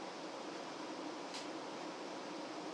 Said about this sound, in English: Anyway, I'm now sitting in a what certainly sounds to be a pretty empty carriage. You can hear the air conditioning and not much else.